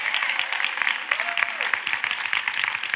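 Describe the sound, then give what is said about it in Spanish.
A crowd applauds steadily, a dense wash of many hands clapping at an even level for a few seconds, with a brief faint tone rising underneath. “Denle un gran aplauso al Señor por eso.”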